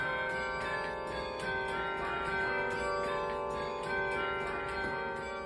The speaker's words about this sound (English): my favorite thing that I've played on the Tower Bells is Megalovania from Undertale